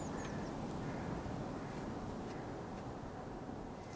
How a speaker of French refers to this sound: L'oiseau qui vient me dire bonjour.